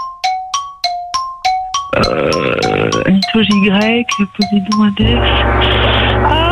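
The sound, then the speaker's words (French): A quick series of about eight bright metallic gong-like strikes rings out in a steady rhythm, loud, signalling the end of answer time in a quiz, then gives way to a dense burst of jingle music. “Et le gong, j'en ai aucun qui vient.”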